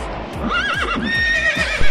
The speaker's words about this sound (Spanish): ¿Qué hace con un caballo, coño?